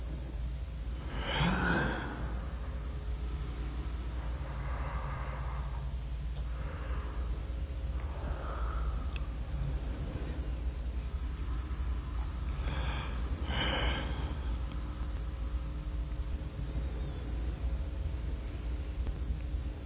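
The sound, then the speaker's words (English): Two long, breathy human yawns recorded on audio tape, one near the start and one after a stretch of softer sighing breaths, heard over the steady low hum and hiss of the tape recording. “Experiment zur Klärung der Frage, ob ein Gähnen, dem man ganz genau anmerkt, dass es nur ein auf Tonband aufgenommenes, also vom Menschen abgelöstes ist, auch so ansteckend wirkt, wie das Gähnen eines Menschen, den man sieht.”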